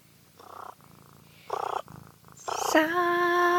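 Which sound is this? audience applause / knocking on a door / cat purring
cat purring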